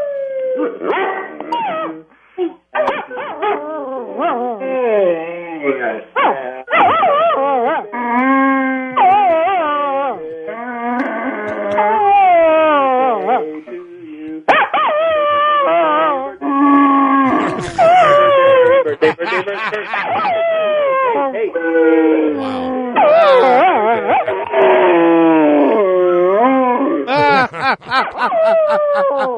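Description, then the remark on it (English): Two dogs, one named Ruger, howl together on cue in a long, overlapping duet, their wavering, sliding cries rising and falling continuously and loudly for about half a minute. “What we'd love to hear is both of your dogs at the same time.”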